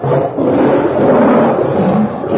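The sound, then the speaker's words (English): A mother lion lets out a deep, rumbling roar that stays loud and steady for a couple of seconds, powerful, with no one speaking. “The mother lion isn't cute.”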